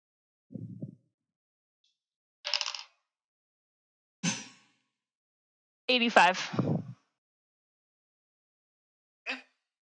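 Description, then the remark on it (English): Percentile dice clatter in a handful of short, separate bursts with silence between them, each a brief rattle of hard plastic, one longer and ringing slightly, the last a quick faint tap. “roll me a percentage dice.”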